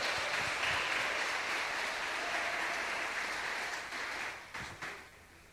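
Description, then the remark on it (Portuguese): An audience applauds God for the life of their pastor, a dense, steady wash of clapping that holds evenly for several seconds, then thins and tapers off in a few scattered final claps. “Aplauda Deus pela vida dele, aplauda, aplauda, aplauda.”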